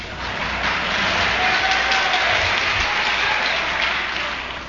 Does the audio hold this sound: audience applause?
yes